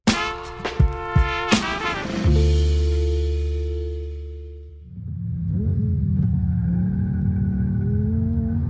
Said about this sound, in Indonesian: Penggemar mobil akan mengenali Sterato dari Lamborghini ketika menderu di jalur balapan. Tetapi tidak banyak orang tahu Sterato buatan Lamborghini ini digerakkan dengan zero petroleum, sebuah bahan bakar terbuat dari udara dan air.